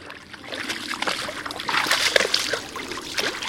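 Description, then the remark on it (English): A yearling moose and her mother wading knee-deep through a small pond in northern Maine, eating aquatic plants: steady sloshing and dripping water with irregular splashes, a few louder surges as the animals move and feed. No voices. “At a small pond in northern Maine, a yearling moose and her mom munch on aquatic plants.”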